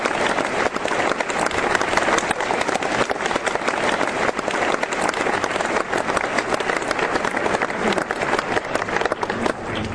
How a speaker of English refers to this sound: Let's give them a polite round of applause.